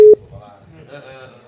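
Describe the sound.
A single loud, short telephone busy-tone beep from a failed call sounds at the very start, then cuts off as people begin talking in the background at a lower level.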